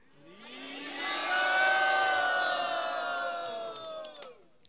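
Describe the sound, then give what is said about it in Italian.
A crowd with raised arms loudly chants "Hari Bol", a sustained chant of many voices together, swelling over the first second, holding strong, then tapering off near the end. “Let us cry out for the Lord's blessings upon them by raising our arms and loudly chanting Hari Bol.”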